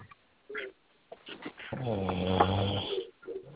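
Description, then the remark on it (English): Snoring heard over a phone line from someone asleep on the call: a long, loud, rumbling snore with a buzzing harmonic drone, preceded by a few softer snorts and breaths, the sound thin and band-limited like a call. “Somebody sleep on the phone.”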